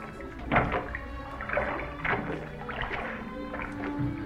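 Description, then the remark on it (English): Four people row a wooden boat a short way out into a bay: oars dip and pull through water in a steady rhythm, each stroke a soft splash over lapping water and faint creaks of the boat, moderately loud with no voices. “Row a short way out into the bay, Peter, and there anchor the boat.”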